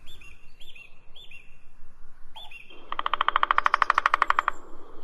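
Birds sing outdoors in Shirabad Park, Golestan province, Iran, opening with a few short repeated whistled chirps, then one bird breaks into a loud, rapid rattling trill for about a second and a half before it stops.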